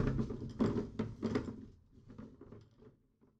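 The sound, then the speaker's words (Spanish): Loud rustling and clattering as a rubbish bag is pulled out of a bin as a Saturday household chore, a few sharp bursts of plastic crinkling that fade into quieter handling noises. No one speaks. “Saco la basura.”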